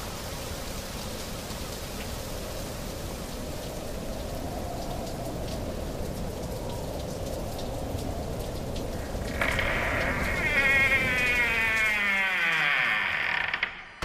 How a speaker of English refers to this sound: My goodness, that storm's getting worse. It's freezing.